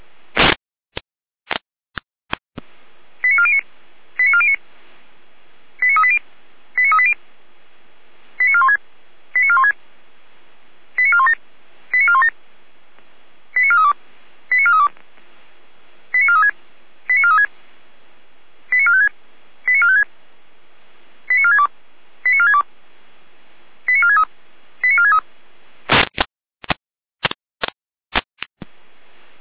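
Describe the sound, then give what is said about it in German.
Fire service radio alerting tones from the Gera control centre: a steady run of short, paired electronic beeps repeating about a dozen times, framed by sharp radio clicks at the start and end, with no talking. “Leitstelle Gera mit Alarmierung.”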